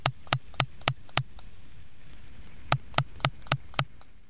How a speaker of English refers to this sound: And we call that clan the EC2. And they'll never make that 1 plus 1 plus 3 coda. But instead, they make a different, longer, slower coda that we call the 5R, because it has 5 regularly spaced clicks.